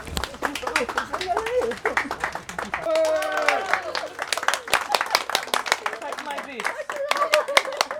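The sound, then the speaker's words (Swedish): A crowd at a ribbon-cutting ceremony for Tyresö parish in Sweden applauds with dense, steady clapping for several seconds, while a voice and some chatter rise through the middle of the ovation. “En applåd”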